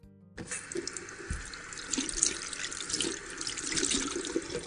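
A tap runs steadily into a bathroom sink as a girl washes her hands, a continuous bright hiss of water with small splashes and shifting tones as hands move under the stream. No one speaks.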